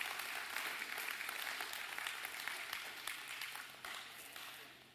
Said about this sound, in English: And the kids, you are dismissed. Big round of applause. Y'all clap for the kids.